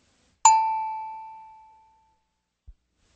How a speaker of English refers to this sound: Start speaking as soon as you hear the tone because I'll be saying the sentence only a few seconds later.